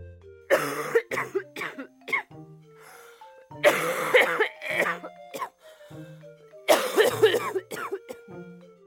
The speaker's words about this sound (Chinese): 老爷爷因为经常抽烟，也就经常咳嗽。